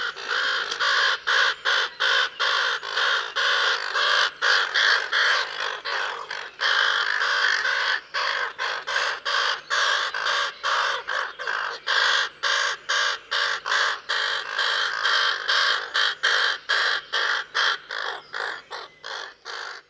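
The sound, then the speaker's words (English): A raven calls over and over in loud, harsh croaks, the rapid bursts running almost without pause for the whole stretch, with no voices present. “The raven is a massive crow that is bigger than a buzzard and can be found on mountains and in forests where it feeds on carrion.”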